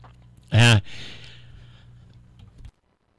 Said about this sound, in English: Sorry, I had to hit the microphone because I was having a little cough.